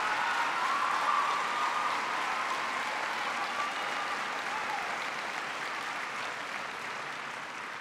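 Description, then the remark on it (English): Sustained applause from a large audience at a speech, after mention of signing the Lilly Ledbetter Act on equal pay for women, a dense steady patter of clapping that holds at an even level for several seconds before easing off slightly toward the end. “And by the way, men, you should have been standing up clapping for that because most families today are depending on two paychecks, not one, to get by.”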